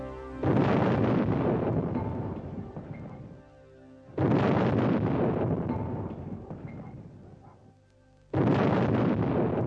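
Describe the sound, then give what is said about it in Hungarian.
Heavy cannon fire: three loud, booming blasts spaced about four seconds apart, each with a long rumbling decay that fades before the next shot. No voices. “Marcipán király és kísérete lóra kapott, és heves ágyúdörgés közepette átvágtattak mi bajot szultán országába”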